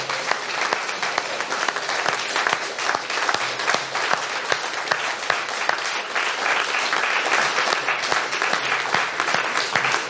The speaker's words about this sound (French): Merci au public d'être venu nombreux. Applaudissez-la joyeusement.